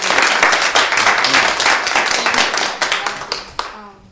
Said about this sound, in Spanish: Un gran aplauso.